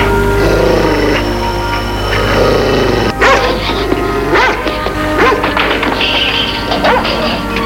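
Dogs bark and yelp in a series of short, sharp bursts over a steady, noisy background hum, the calls coming close together at moderate loudness.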